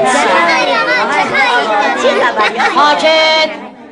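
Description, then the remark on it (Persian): Many children chatter over one another in a constant, loud jumble of overlapping high voices, the babble of a noisy classroom that fades out in the last half second. “اینقدر همتون میگی شلوغ نمیکنیم که بیشتر از هر موقع دیگه کلاس شلوغه.”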